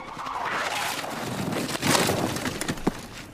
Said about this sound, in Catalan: La moto es belluga perillosament. Treu el mòbil i intenta ficar-lo per sota el casc. La moto fa un gir estrany, frenada, cops... Ah!